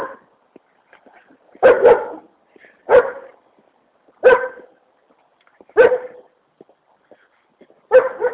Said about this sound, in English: Oh, here's my barking dog. Shame. Shut the hell up.